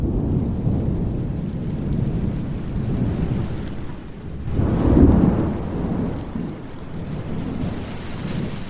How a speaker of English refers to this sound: I love when a big storm comes. I've always loved, you know, rainstorms and thunder and lightning, but there's something really special about being in the forest when that comes.